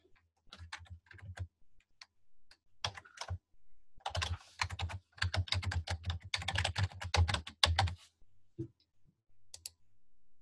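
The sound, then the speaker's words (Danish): Rapid computer keyboard typing of a short link, a few scattered key clicks building into a dense burst of keystrokes, then trailing off into a couple of final taps. “Og så har vi egentlig de her short links, for hvis man vil, hvis man har en landing page, eller man har en et eller andet side, så kan man lave et, så skriver man sit short link her.”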